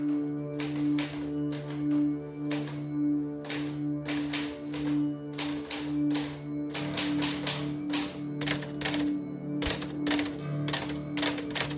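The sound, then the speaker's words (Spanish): Typewriter keys clack in quick, uneven bursts of sharp strikes, fairly loud, over a steady low hum or drone in the background, as a man types alone in his office while smoking. No one speaks. “Arquímedes fuma solo en su oficina con una máquina de escribir”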